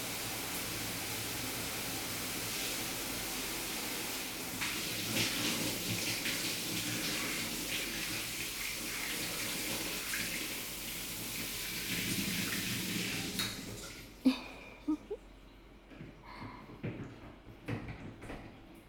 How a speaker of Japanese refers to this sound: じゃあ、おちんちん流すわね。後ろから流すから。はい。じゃあ、シャワーかけるわね。